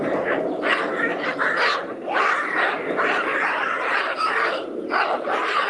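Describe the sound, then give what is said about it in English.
Baboons screaming and chasing one another, over one another in a loud, unbroken jumble of harsh, barking shrieks, rising and falling in overlapping bursts with no pause throughout. “a bunch of baboons, ladies and gentlemen. Screaming. Baboons. Chasing one another.”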